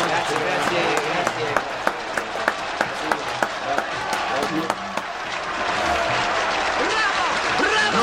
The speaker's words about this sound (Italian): 92 minuti di applausi. Sono 90 minuti di applausi, eh.